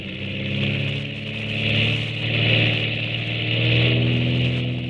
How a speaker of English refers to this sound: You see, Commander, the torpedo plane will be catapulted off that track over there. Yeah. In some of our tests, she's gone as far as 100 miles. Oh, keep your eye on her. She's due to let go right now.